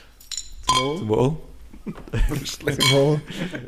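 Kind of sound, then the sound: household object, glasses clinking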